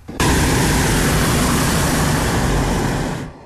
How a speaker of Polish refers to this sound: posłuchajmy może takiego króciusieńkiego nagrania, które mimo tych wielkich emocji, które towarzyszyły mojemu udziałowi w locie w sobotę, udało mi się parę nagrań tam właśnie w balonie na wysokości 400 metrów zrobić.